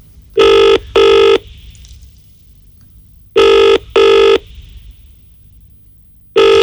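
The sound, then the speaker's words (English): A telephone rings unanswered in a classic double-burst pattern, two short electronic trills repeated with long pauses between, fairly loud, with no voices. “No, it's probably like the computer's still doing its stuff, so it can't answer it again.”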